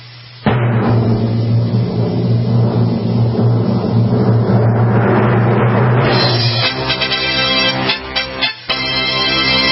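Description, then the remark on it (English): A loud, sustained rumbling drum roll builds for several seconds, then breaks into rapid crisp hits with a couple of brief pauses near the end, played before announcing the winner of the 2022 Green Car of the Year Award. No one speaks. “And now, for the winner of the 2022 Green Car of the Year Award, let's see if we can find the drum roll.”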